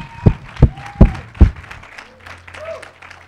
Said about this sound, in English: Eight, come on, clap your hands.